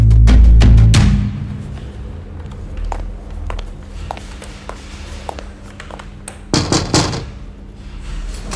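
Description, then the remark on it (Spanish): A door to a police commissioner's office is opened as someone enters, with a cluster of latch clicks and a heavy low thud, followed by quiet room sound and another short burst of knocking clatter near the end. “Cierre la puerta, por favor.”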